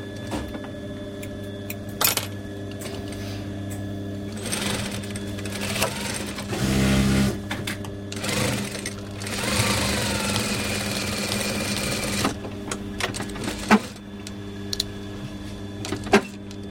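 A sewing machine is switched on and hums steadily with a low motor drone, punctuated by sharp clicks and a louder burst of rapid stitching in the middle; no one speaks.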